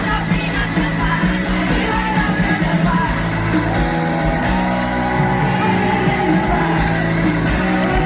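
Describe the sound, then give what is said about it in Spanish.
A large crowd at a live concert yells and cheers loudly and continuously, a dense roar of voices with music still ringing underneath as a song winds down, with no clear speech. “Tenemos un audio del lugar. El final de la canción.”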